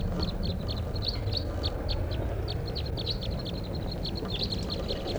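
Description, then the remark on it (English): A flock of about eight wild crossbills in the top of a tall lodgepole pine above a camp gives sharp, high chip notes in quick irregular bursts, several birds overlapping, over a steady low rumbling hiss; recorded at 5:05 p.m. “and there's a flock of wild crossbills here, about 8 birds up in the top of a tall lodgepole right above camp.”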